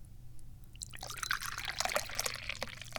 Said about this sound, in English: And maybe, just maybe, I might need to pour some more tea.